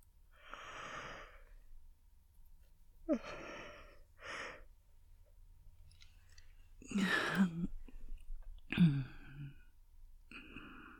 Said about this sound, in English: My fingers in your hair, relaxing you, massaging so softly, while you listen to me yawning.